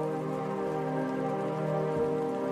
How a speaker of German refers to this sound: Wasser tropft von den Blättern, selbst wenn der Himmel klar ist.